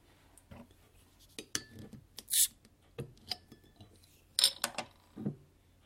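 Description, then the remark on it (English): A 550 ml bottle of wheat beer being opened: glassy clinks and handling knocks, then two short, sharp hissing bursts of escaping gas, with quiet fumbling in between and no talking. “So let's crack this wheat beastie.”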